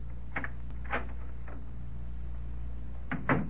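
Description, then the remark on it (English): An apartment door opens and closes, heard as a handful of short latch clicks and knocks spread over a few seconds, with a steady low hum underneath and no voices. “And the door wasn't locked.”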